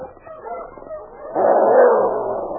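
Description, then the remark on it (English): An approaching sled dog team on a trail yips and barks in the distance, muffled and overlapping, swelling noticeably louder halfway through as the team draws closer. “Jake Gannon paused at the distant sound of an approaching dog team.”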